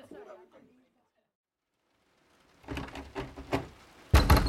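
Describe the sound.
A run of heavy, rapid bangs on a door, growing louder, ending in a loud harsh burst. A faint voice murmurs briefly before a quiet pause.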